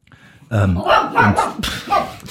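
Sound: dog barking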